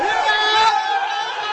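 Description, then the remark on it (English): Baseball fans at the Hub Pub in northern Tokyo, Japan, roar and cheer over the Dodgers' World Series title and Shohei Ohtani, voices blending into a loud, sustained wash of excited shouting and screaming for about a second and a half. “The screams at the Hub Pub in northern Tokyo could be heard outside the door, with fans showing a special excitement for their national hero, Shohei Ohtani.”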